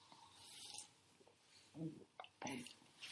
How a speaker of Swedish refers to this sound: Jag måste ta en klunk och kolla sig.